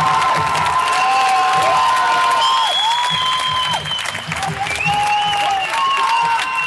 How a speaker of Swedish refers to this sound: Publiken börjar bli galen här. Örebro-publiken är verkligen på tårna.